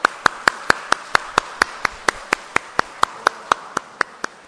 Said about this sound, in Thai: อยากจะขอเชิญคนที่เป็นพ่อนะใครก็ตามที่เป็นพ่อนะครับขอเชิญยืนขึ้นหน่อยนะแล้วเราปรบมือให้กับคนที่เป็นพ่อนะครับขอเชิญหน่อยนะครับยืน